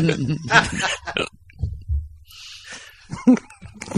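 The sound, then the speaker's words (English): A voice makes a few short, grunting, snorting pig-like oinks, separated by brief pauses with a breathy hiss in the middle. “I'm a black pig.”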